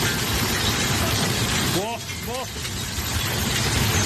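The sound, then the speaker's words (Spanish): A loud, dense, unbroken clatter of hailstones over 5 centimetres in diameter pounding down during a storm in Quinto, Zaragoza, Spain, at 7 in the evening, with two short rising voice-like cries briefly cutting through the din midway. “Una tormenta que dejaba granizo de más de 5 centímetros de diámetro, que también se repetía en Salazar, en el Pirineo Navarro.”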